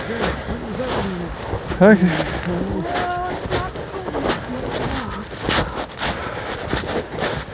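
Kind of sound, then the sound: bird, crow calling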